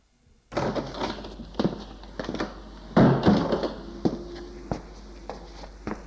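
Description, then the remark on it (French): A door opens with a run of sharp clicks and knocks over a steady rustling hiss, a thin high creak drawn out across the few seconds; no one speaks. A young man in a royal blue dressing gown then comes through it. “La porte s'est ouverte et elle voit avancer un jeune homme en robe de chambre bleu roi.”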